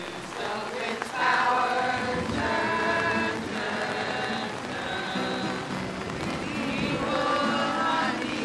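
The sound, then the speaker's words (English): Heavy, steady rain hisses loudly across the whole recording while a group of voices sings together underneath at an outdoor sing-along, their sustained notes rising and falling, partly swamped by the downpour. “This is probably not the best example because the rain was so loud.”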